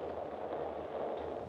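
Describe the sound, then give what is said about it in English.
A low, steady background rumble gives way to a sudden loud, sharp boom right at the end as a starting cannon is fired ashore when the flag reaches the bottom of the pole. “When the flag gets to the bottom of the pole, they'll fire the cannon, we'll be on our way.”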